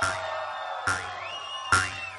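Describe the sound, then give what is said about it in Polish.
A crowd screams and cheers in a dense, continuous roar at a club dance night, with three sharp surges of shouting rising above the din, loud, as a DJ is announced. “O, jak jeżeli będziecie tak tak krzyczeć, to na pewno chyba nie stanie.”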